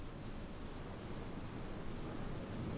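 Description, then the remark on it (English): Atlantic Ocean waves washing onto a beach, heard as a steady, continuous roar of surf with no distinct individual crashes, fairly soft and unbroken for the whole few seconds, with no voices. “That's because the sand on Texas beaches are from sediment from the Mississippi River. This is the Atlantic.”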